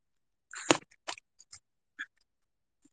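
A dog crunches and gnaws on a hard bone, a burst of loud cracking chews followed by a few scattered, fainter crunches and a long pause, with no one talking.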